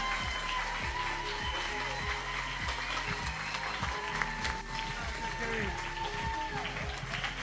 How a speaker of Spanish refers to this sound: Un aplauso gigante grande.